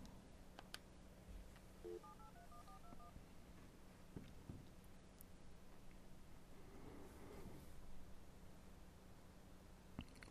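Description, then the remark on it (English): A quick run of touch-tone dialing beeps, about eight short tones in a rapid sequence, sounding over a steady low hum and faint background hiss with no one speaking. “Let's give him another phone call and see if we can't track him down and see what's going on.”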